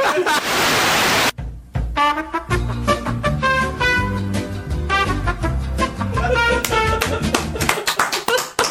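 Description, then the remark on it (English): A brief, loud burst of hand clapping opens, dense and noisy, then cuts off into upbeat music with a steady thumping beat and bright melodic tones. “That's the first clap in OSW history.”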